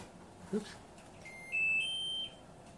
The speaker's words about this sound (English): It doesn't beep when you turn it off, but that was the washing machine.